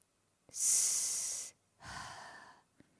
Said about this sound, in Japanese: はじめまして。僕のことは狐と呼んでね。緊張せずに。ほら、深呼吸してごらん。